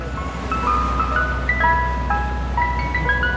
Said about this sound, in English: I think that's a good humor, man. It sounds from Philadelphia, where it's been 99 degrees. Thank goodness for ice cream trucks.